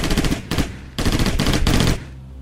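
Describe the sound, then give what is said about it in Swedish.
Loud gunfire from an automatic weapon, with 13 shots fired into a man's back on an autumn evening, rattles off in several rapid bursts of closely spaced shots for about two seconds, then cuts out, leaving a low lingering rumble. No voices. “Han är skjuten med automatvapen, 13 skott i ryggen.”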